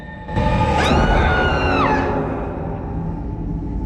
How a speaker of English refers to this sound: The mirror opposite Ellie is cracked, and words have been written across it in red lipstick. Blood will have blood. Ellie screams in horror and staggers back.